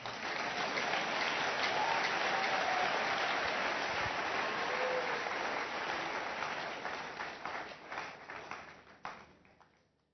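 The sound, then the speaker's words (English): An audience claps hands in sustained, dense applause that holds steady for several seconds, then thins into scattered individual claps and fades out toward the end. “Clap well, oh.”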